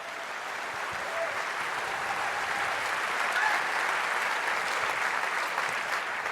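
A crowd on a main stage applauds steadily to welcome a speaker, a dense wash of many hands clapping at an even, sustained loudness for several seconds with no voices standing out.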